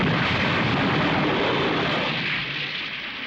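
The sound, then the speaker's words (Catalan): A robot's fist vibrates and then explodes during a fight with Goku: a loud, dense, roaring blast of noise that rumbles on steadily for a few seconds and fades only slightly toward the end. No voices. “El puny comença a vibrar fins que finalment explota.”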